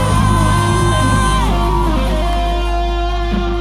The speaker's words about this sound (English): I dare you one more time, open up your mouth, Logic Church Mainland, scream!